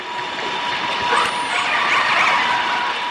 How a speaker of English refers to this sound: And now listen to the combination as a different large ship comes around a corner and intersects with a pod of whales.